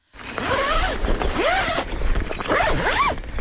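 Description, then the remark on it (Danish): A tent zipper is pulled in several quick strokes, each a rising-and-falling rasping whine, loud and continuous with short pauses between pulls and no talking. “Og jeg kom til at tænke på her den anden dag, lyden af, at man lyner et telt.”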